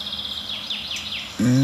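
bird, garden warbler alarm calls

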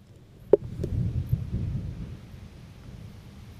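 nature, thunder rumbling

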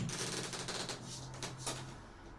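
household object, balcony door being opened

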